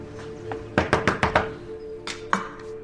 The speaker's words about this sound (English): As she parks the car, a woman in the house cuts vegetables in her pantry.